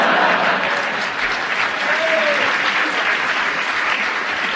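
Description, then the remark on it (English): Sustained applause from a sizeable audience, a dense, steady clatter of many hands clapping at once, loud throughout with no pauses or voices standing out. “That round of applause, which was Ross offered her buzzer, his buzzer.”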